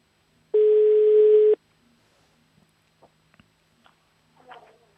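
One loud, steady telephone ringing tone on an outgoing call, a single beep lasting about a second, followed by quiet line clicks and faint rustling.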